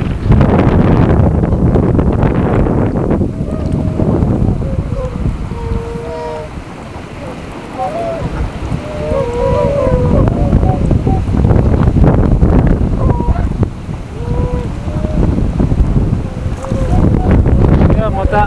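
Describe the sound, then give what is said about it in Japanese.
Strong wind roars and buffets across the bank of the Natsui River in a loud, steady, low rumble, briefly easing midway, while swans give scattered honking calls beneath it. “風が強くなってまいりましたので今日はこの辺にして、最後に、白鳥さんたちの声をお伝えしたいと思います。”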